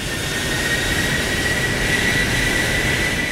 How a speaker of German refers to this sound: Seine Flügelspannweite beträgt 117 Meter. Das sind fast 40 Meter mehr als beim Airbus A380. Im September vergangenen Jahres wurden erstmals die Triebwerke dieses Monstrums in der Mojave-Wüste getestet.